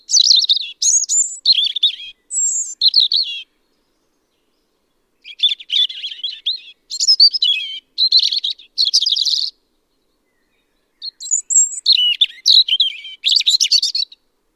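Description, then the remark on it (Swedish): A European robin sings alone in spring, clear, in three bursts of high, warbling, tumbling phrases separated by short pauses. “Rödhaken.”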